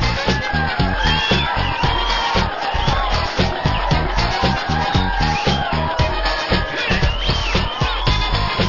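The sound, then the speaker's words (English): A crowd applauds and cheers loudly and steadily for about nine seconds, a dense wash of clapping with scattered whoops and shouts rising above it, for The Martin Bender Band Cheer Show on WBRI 1500 in Indianapolis. “Boy, those new people, that applause really is richer and more vibrant.”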